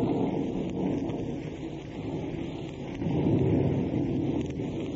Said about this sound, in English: As we open, we find Eddie Bracken at Dottie's house at Malibu. The night is rainy and accompanied by thunder and lightning.